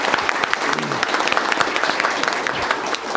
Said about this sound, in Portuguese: Primeiro, dá uma salva de palmas ao senador Cristóvão, comprometidíssimo com essa causa.